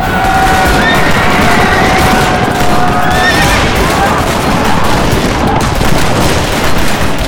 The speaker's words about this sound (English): Jamie's marauders cleared 100 saddles during the first volley.